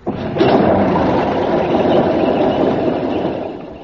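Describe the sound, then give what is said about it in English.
An old fire engine running on petrol cranks and catches with a brief burst, then settles into a steady, loud rumbling idle, with no talking over it. “Right, hold on, everybody. I'm going to start her up.”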